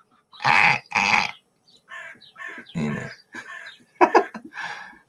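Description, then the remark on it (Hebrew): Two loud, harsh caws ring out in quick succession from a crow perched on a dry branch at the top of a tree some 25 to 30 metres tall, each a rasping burst about half a second long, followed by a person speaking softly over the remaining seconds. “ששם עורב על זה עץ של איזה 30 מטר, 25 מטר, ולמעלה למעלה, על הענף היבש, יבש אולי מקרינה, כי הוא כבר מקבל אנטנות מרחוק, לא יודע, יש עורב.”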